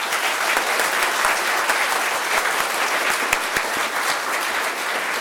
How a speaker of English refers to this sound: So give them another round of applause.